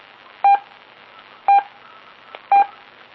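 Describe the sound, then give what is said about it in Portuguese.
Three short, evenly spaced electronic beeps, about a second apart: Morse code letter tones in a practice lesson, over a steady radio hiss with no voices. “Provavelmente amanhã já começa aí então a passar aí uns números, umas letras, palavras, né, uns indicativos, para ver como é que vocês já vão saindo por aí, ok?”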